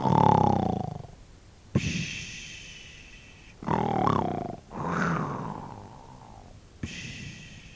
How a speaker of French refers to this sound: Elle traîna trois sacs au travers de la porte, se coucha dessus à plat ventre et se mit à ronfler.